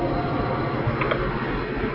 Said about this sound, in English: I'll wait for the train to go by.